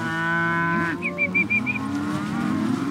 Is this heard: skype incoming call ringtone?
no